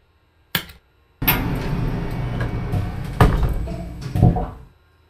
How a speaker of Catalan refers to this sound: Les portes s'han tancat, però l'ascensor no es mou.